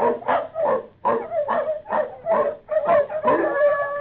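Seven newborn puppies of the dog Bonnie Blue, in a shed in the piney wood country of Mississippi, whimpering and squealing in a steady string of short, high, reedy cries, about two per second, growing into longer, overlapping whines toward the end. No one speaks.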